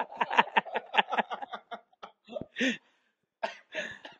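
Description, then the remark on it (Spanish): A run of coughing: a quick string of short, rough bursts, then a few louder, harsher coughs separated by brief pauses, with no talking over them. “Cuidado con la tos.”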